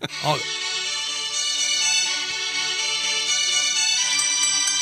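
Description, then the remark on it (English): A phone ringtone from an incoming call plays steadily and fairly loud for several seconds, a sustained bright melodic tone, with a brief voice heard only at the very start; the phone is inside bunkers. “Just give me a call real quick, and hopefully we have a signal inside these bunkers that we are in right now.”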